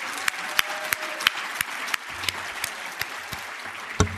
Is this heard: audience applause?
yes